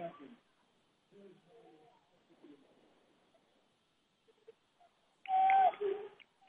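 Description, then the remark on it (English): A single sharp referee's whistle blast during a basketball game, blown as a player goes to the floor, cuts through a sudden swell of crowd noise, following a stretch of quieter commentary-style talking. “To the floor he goes in a whistle”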